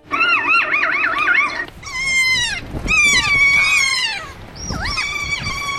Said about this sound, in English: So researchers say the play call of the Kea parrot, which is from New Zealand, puts other members of its species in the mood for fun. And I've got a clip of it.